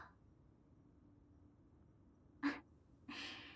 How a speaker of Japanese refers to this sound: 大きなあくびですこと。徹夜なんてするからですわ。